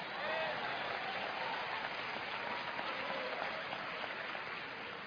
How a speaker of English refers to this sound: Praise God. Clap, I dare you.